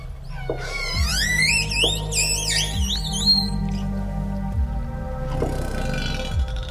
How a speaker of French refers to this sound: Les orques, nulle surprise à cela, ont des choses à dire. Elles ont donc un répertoire sonore important.